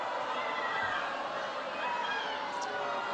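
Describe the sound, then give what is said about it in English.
A large crowd keeps booing while President Obama tries to quiet them, a steady, dense roar of many voices that holds without letup for the whole few seconds, with no single speaker standing out. “And the crowd here keeps booing for a while as President Obama tries to quiet them.”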